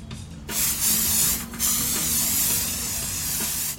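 Steady hiss of water as a mask-making artist sprays three head-sized clay lumps at an outside table, delivered in a few long bursts with a brief pause between them and no voices.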